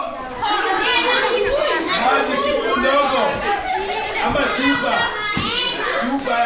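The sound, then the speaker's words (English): A steady din of children chattering, shrieking and cackling inside Project Elimu, a ballet school with cracked concrete walls and an uneven tin roof, many high voices overlapping at once with bursts of giggling, loud and continuous throughout. “Kids shriek and cackle.”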